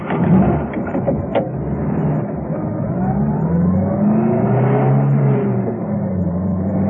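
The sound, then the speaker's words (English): A taxi, with Arcos at the wheel, drives to 14 Calle de Luna; its engine hums steadily at a low pitch, the tone rising and falling as it drives along and shifts speed, with a constant rumble of road noise and no voices. “So Steed ordered a taxi. When it came, Arcos was at the wheel.”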